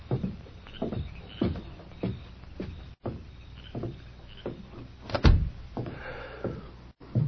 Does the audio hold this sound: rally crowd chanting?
no